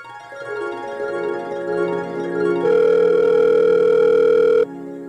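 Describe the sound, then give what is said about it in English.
A phone's calling tone plays alone as a call is placed, a steady electronic hum that shifts to a stronger, brighter pitch partway through before cutting off abruptly near the end. “So I called Cheyenne to break the news yesterday.”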